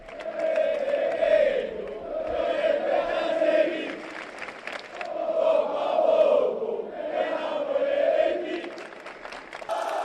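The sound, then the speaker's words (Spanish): A crowd of about 2,000 Valencia football fans cheers and chants outside the stadium to welcome the team as the Valencia team bus arrives, the loud roar swelling and dipping in repeated waves roughly every two seconds, continuous throughout with no single voice standing out. “pero con 2.000 aficionados del Valencia en las inmediaciones del estadio para recibir al equipo.”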